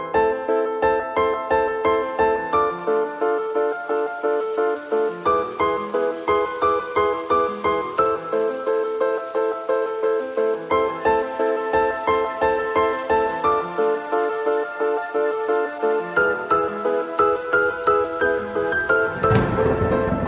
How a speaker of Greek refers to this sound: Μια μουσική ανάσα και συνεχίζουμε.